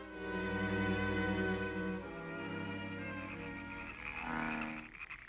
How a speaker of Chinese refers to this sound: 哎呦，我这些青蛙真闹得我神经错乱了。哎呦， 这也太不像话了。